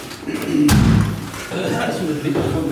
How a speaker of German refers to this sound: Moment, ich mache die Tür noch.